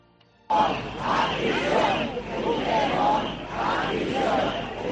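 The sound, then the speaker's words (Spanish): A large protest crowd against the PSOE–Junts negotiations chants and shouts "Puigdemont a prisión" in a loud, rhythmic roar of many voices, bursting in abruptly after a brief near-silence and pulsing in repeated surges. “Los gritos de Puigdemont a prisión han sido protagonistas hoy, también las banderas de España y, por supuesto, las de la Unión Europea.”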